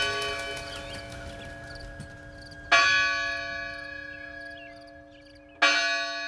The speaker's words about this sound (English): The bell would signal the end of the kind of the shift in the fields or whatever. The chimes from the church tower meant that it was time to put down your tools. Time to assemble together. For worship. Or a meal.